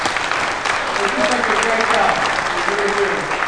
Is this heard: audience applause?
yes